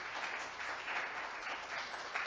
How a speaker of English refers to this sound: All right, you guys who are here, if that's true, just give God an applause. I want everybody to hear.